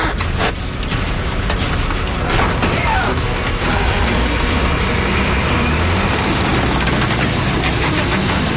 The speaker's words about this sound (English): All right, I'm going to winch that right out of there is what I'm going to do.